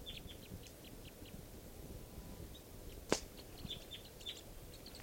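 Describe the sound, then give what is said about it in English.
Several birds chitter in short, high, scattered calls as they come down into low deciduous trees around a camp, over a steady low rumble, with one sharp louder click or snap partway through. “And they're coming down, chittering.”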